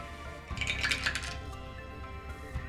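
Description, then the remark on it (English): A quick rattle of dice clattering across a tabletop, bright clicking taps over about a second, then a last faint click as they settle; moderately loud, no talking. “I like these dice. They roll consistently.”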